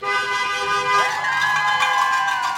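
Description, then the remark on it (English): Several passing cars honk their horns together in support of conservative school board candidates outside a polling entrance during a Southlake election, a sustained, overlapping chorus of steady tones, loud, with faint crowd noise and traffic underneath. “They're waving huge, dragon green campaign signs for school board candidates Hannah Smith and Cam Bryan, and yelling for passing drivers to honk their horns in support.”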